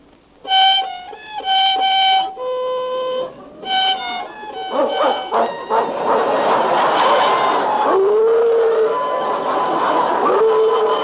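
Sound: dog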